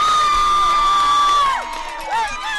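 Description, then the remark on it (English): An outdoor crowd of about 300 at a small-town Paint Creek football game cheers and whoops loudly, with sustained shouts and a couple of rising and falling yells, reacting to a 41-yard touchdown run on the first play from scrimmage. Some sit on bleachers, others in pickup truck beds or lawn chairs. “The crowd numbers about 300.”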